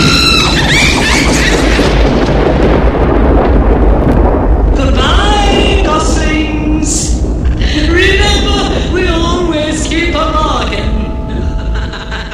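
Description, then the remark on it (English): Deep, continuous thunder rumbles and crackles low and loud throughout as a storm cloud rolls away with lightning flashing inside it, while high squealing, wailing cries rise and fall over it in the second half. “Lightning flashes inside the cloud as it rolls away.”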